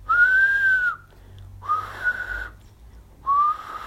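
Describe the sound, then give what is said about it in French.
The whistle of an approaching steam train sounds three times in the distance, each blast lasting about a second with short gaps between, clear and fairly loud over a low background rumble. “Au loin, quelque chose siffla trois fois.”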